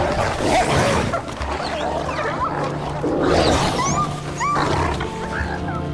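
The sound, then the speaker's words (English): Several wolves snarl and growl ferociously while fighting over a salmon, a continuous, chaotic tangle of rough, throaty noises, with a few high yelps cutting through the scuffle. “The wolves jump up to grab it, then pounce on it and fight over it.”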